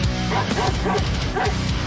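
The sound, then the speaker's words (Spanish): A dog barks several times in a quick, regular rhythm, loud, set over a dense musical backing that plays throughout. “El perro hace.”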